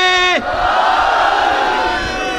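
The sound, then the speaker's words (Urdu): A lone voice cries out briefly, then a large crowd roars the religious slogan "Nara-e-Haidari" back in unison, loud and sustained, with a broad reverberant echo. “جب میں آپ کی خدمت میں عرض کروں گا اور آپ سب کو جب ہماری آواز آئے گی اور آپ سب مل کے نعرہ لگائیں گے تب یہ کام ہو جائے گا.”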